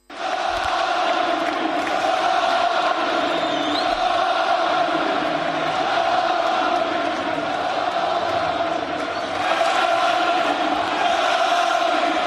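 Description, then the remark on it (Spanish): A crowd of about 10,000 fans at the Camp Nou chants Xavi's name in unison at his presentation as coach, a loud, steady roar of many voices holding a sung, two-note rhythm that swells slightly near the end without pause. “Así cantaba su nombre en el Camp Nou.”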